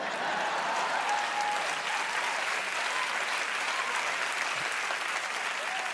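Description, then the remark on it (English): Steady, dense applause from an audience, a continuous crackle of many hands clapping at an even loudness for several seconds, with no voices standing out. “I get an introduction, a round of applause, and music played every time I show up for work.”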